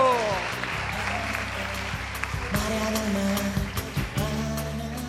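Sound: applause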